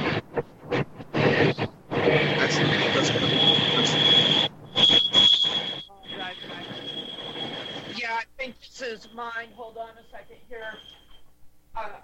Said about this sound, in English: I happen to have a freight train that comes through my backyard, so I'm sorry.